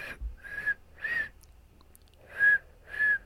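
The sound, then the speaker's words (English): Someone whistles a short melody of Jingle Bells, four clear pure notes in a bouncing rhythm with a pause midway, moderately loud with no talking. “Jingle Bells.”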